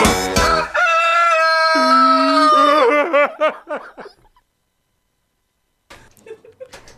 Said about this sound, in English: That was cock-a-doodle-doo. Cock-a-doodle-doo, good.